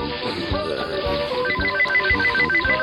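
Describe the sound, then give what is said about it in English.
A phone rings with a loud melodic ringtone: bright, repeating electronic notes over a steady thumping beat, playing alone without any voices. “What's the caller ID here say?”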